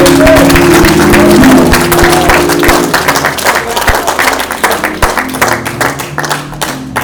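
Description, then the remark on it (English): A church audience gives the Lord a clap offering, breaking into sustained, loud applause of dense clapping from many hands, with faint sustained musical tones underneath at first before the clapping continues on its own. “Give the Lord a clap offering for His name.”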